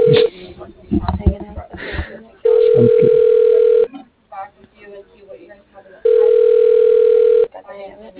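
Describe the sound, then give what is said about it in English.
A telephone rings on the line: two long, steady, mid-pitched tone bursts separated by a pause of a couple of seconds, with a person talking briefly before and between the rings. “The phone just kept ringing.”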